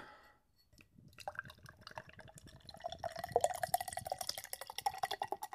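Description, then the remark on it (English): Three Creeks Brewing's Tres Arroyos Mexican Lager pours into a glass, a steady gurgling stream with a rising tone as it fills, after a brief quiet start; no talking. “I shall open mine. That was a nice pop. And now the pour.”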